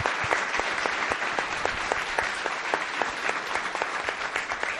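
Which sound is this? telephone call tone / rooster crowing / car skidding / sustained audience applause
sustained audience applause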